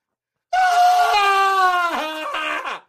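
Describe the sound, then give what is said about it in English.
A voice imitates a long, loud scream, sustained at a high pitch for over two seconds before wavering and breaking off, with no other sounds around it. “They hold their head for about 10 minutes, and they let out the scream.”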